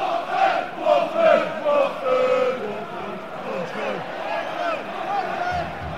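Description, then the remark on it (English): A football crowd chants together in a stadium at the Watford versus Arsenal game, a late kick-off, with everybody clapping. Many voices blend into a loud, sung roar that swells and falls in a steady rhythm, with a constant wash of crowd noise underneath. “We're at the Watford-Arsenal game. It's a late kick-off. Everybody's clapping, don't know why.”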